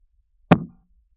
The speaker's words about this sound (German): Du hast nicht geklatscht. Ich hab geklatscht. Ich sehe es klar und deutlich auf der Aufnahme. Dein Klatschen? Weiß ich nicht. Also ich habe dein Klatschen nicht gehört.